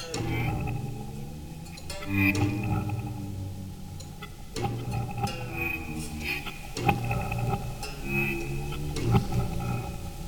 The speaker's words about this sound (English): Get some whale calls in there. Sounds like humpback whales.